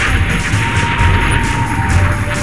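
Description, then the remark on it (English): A loud explosion sound effect from a trailer for the film Train Track Bomb: a dense, sustained roar of rumbling noise with no clear separate blasts, holding steady for a couple of seconds without any voices. “Epic explosions.”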